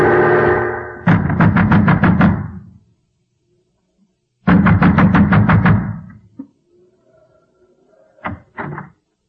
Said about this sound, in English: A man wrapped in an oilskin, wearing gigantic boots, was pounding at the door of the windmill.